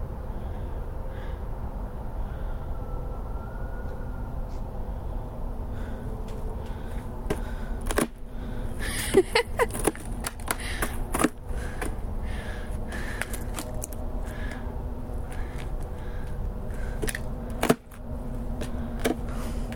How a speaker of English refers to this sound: Sorry, I'm having fun cracking the ice.